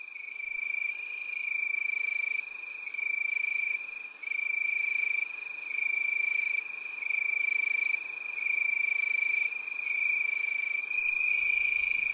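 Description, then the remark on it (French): A cricket chirps steadily, its bright, high trill pulsing in a continuous rhythm with no voices, like a warm summer night. “On resterait bien dans ce chant de grillon, là, non?”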